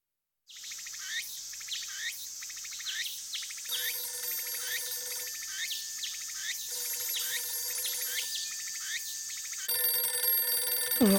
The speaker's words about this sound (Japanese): 誰だい、こんな朝早くに。 お父様、きっとその電話は私にです。